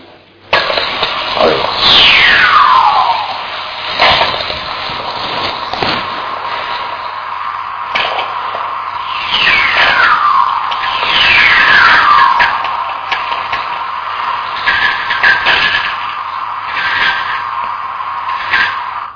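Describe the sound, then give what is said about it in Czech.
Radio recording of lightning: sharp crackling sferic clicks coming directly from the lightning strikes, scattered throughout, with several long whistlers, the generated electromagnetic waves, sweeping smoothly downward in pitch over a couple of seconds each, above a steady hiss and hum. “Krátké věci, co v tom byly, tím se říká sferiky, to je přímo z těch blesků, a to dlouhý, to je ta generovaná elektromagnetická vlna, co jste slyšeli, ten hvězd.”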